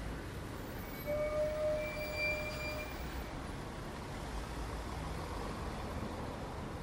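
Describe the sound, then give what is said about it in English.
A bus rumbles past with a low, steady engine drone and a thin, high whine that rises briefly and then fades. The sound is fairly quiet, with no voices. “Sorry, I was going, it's a bus in the background.”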